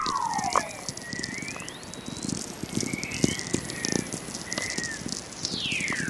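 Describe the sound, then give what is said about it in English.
Natural VLF radio waves made by Earth itself: a steady crackle of static clicks and pops, crossed by several eerie whistling tones that glide smoothly up and down in pitch, one long descending whistle standing out at the end. “When I discovered Earth makes its own radio waves, I was amazed”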